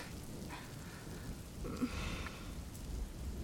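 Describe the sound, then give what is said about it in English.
Steady rain patters across a rooftop, a dense continuous hiss of drops with a low rumbling undertone and no voices. “I can't say I expected the rain, though.”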